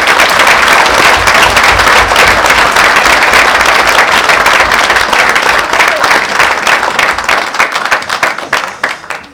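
An audience applauds people for their enormous work, dense clapping holding loud for most of the stretch before thinning into scattered claps and fading out at the end.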